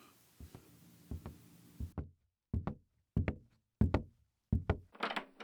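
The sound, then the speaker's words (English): Firm knocks on a wooden door, struck in loose pairs with short pauses between, fairly loud, ending in a brief scraping rustle. “Nope, it's not your mother and I do not need to fucking knock.”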